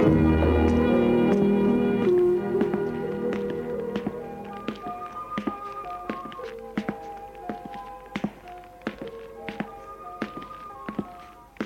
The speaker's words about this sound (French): Avant d'ouvrir la porte, j'hésitais un peu, frappai plusieurs fois timidement. Et ouvrais la porte en tremblant un peu.